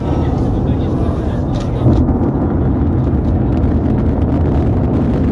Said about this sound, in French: Voilà le bruit que fait une fusée Soyouz au décollage. 20 millions de chevaux de puissance dégagée.